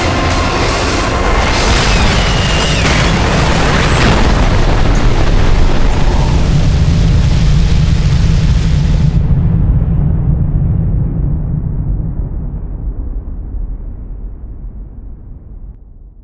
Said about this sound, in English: The dawn came, and the sounds of crashing boulders, exploding flamework, and screams of pain fell away.